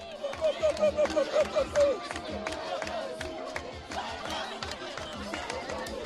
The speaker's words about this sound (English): And the highlight was a dance-off. There were three girls about 10 years old, one of whom was on crutches, one of whom was looked to have burns all down her side, and they just went for it. You can hear sound of the crowd.